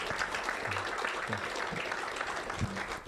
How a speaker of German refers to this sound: Sie haben es zum Laufen bekommen, auch mit den alten Juniper Enterprise Switchen. Dafür ist auf jeden Fall der Applaus gerechtfertigt.